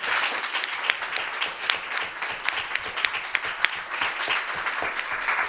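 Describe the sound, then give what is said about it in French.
An audience applauds a prize-winning author steadily throughout, many hands clapping in a dense, continuous patter that is fairly loud, with no voices standing out. “et je crois qu'on peut l'applaudir aussi.”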